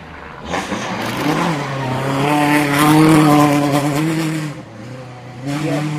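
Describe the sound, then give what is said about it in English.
A race car engine rises in pitch as it approaches and passes by on a drying race track, revving loudly for several seconds before fading slightly, with a brief lull and another surge near the end. “Here's a car.”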